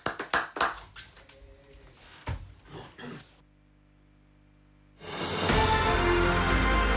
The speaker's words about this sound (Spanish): Muchas gracias. Llévese este aplauso, cálido.